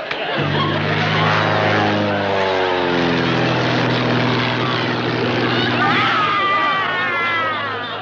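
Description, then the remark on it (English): A propeller airplane engine drones loudly and steadily in flight, its deep throbbing hum holding constant throughout with a slight shift in pitch partway through. “They say these planes are simple enough for a child to fly.”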